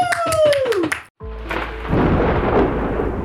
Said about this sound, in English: All right. And a round of applause.